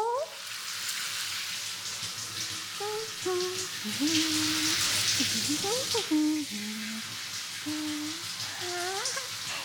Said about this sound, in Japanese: 先輩、水が目に入るのが怖かったら、目をつむっててもいいですからね。では、シャワーで頭流しますよ。